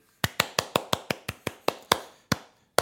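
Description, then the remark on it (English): A quick run of about a dozen sharp hand claps, fast and even at first, then slowing, with a final clap after a short pause. Crisp and fairly loud, with no talking. “Hand clap.”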